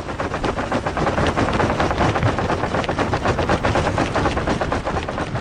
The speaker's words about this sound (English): There's the sea ice at the North Pole, and it was only a few feet thick in 2003 when my guest Andrew Revkin stood on its surface and captured footage to document this excursion. Here's just a taste of what the sound of the ice is like.